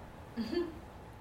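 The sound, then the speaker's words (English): A female parrot out in another part of the home lets out a single brief, voice-like squawk, yelling "Allow!", faint and lasting under half a second. “I just got the parrot telling me what to do out there. she's yelling, "Allow!"”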